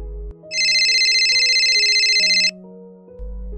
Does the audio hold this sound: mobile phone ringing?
yes